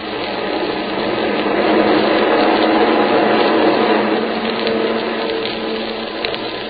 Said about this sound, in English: And the skies from coast to coast echoed the roar of training planes, hundreds of them.